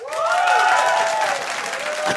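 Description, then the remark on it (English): A burst of audience applause as the audience votes for 'no, stay away', dense and fairly loud, with a sustained whooping cheer rising above the clapping before it tapers off slightly. “A round of applause for no, stay away.”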